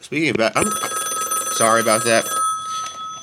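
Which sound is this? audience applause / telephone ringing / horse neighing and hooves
telephone ringing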